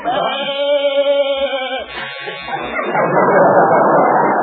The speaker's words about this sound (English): There goes our door buzzer.